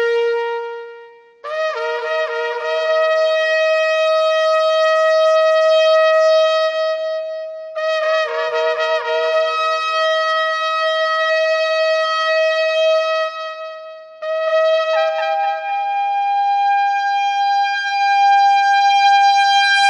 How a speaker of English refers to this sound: Father, we just thank you so much, and we just pray that this shofar would be a wake-up call to each one of us for the times that we're living in.